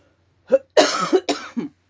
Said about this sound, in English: Sorry, I've just got a really bad cough today. I don't know why.